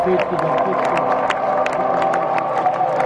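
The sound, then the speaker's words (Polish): A large crowd on the Błonia breaks into loud, sustained applause at the last farewell to the Pope, a dense patter of clapping over a steady roar of many voices, with scattered sharper claps cutting through. “Teraz ci ludzie zaczęli już powoli opuszczać Błonie, ale w momencie tego ostatniego pożegnania z papieżem tu na Błoniach rozległy się gromkie oklaski.”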